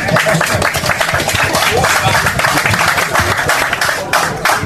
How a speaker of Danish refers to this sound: Kom, ja, klap lige.